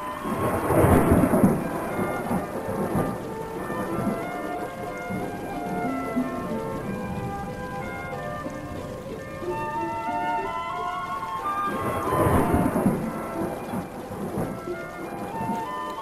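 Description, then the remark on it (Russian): Steady rain pours throughout while two loud rolls of thunder rumble through, one at the start and another near the end, with no voices present. “Все ушли далеко вперед, а Хамид шел медленно, задумавшись о виденных картинах, не замечая и не чувствуя дождя.”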